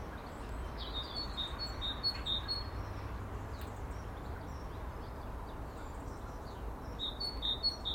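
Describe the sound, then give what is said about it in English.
Birds sing in the morning after horrible weather has gone, in repeated bright chirping phrases, clustered at the start and again near the end, over a steady low outdoor rumble, and no one is speaking. “It's one of those mornings, I just want to stand here and with my eyes closed and just soak in the relative peace and quiet and the birds' song.”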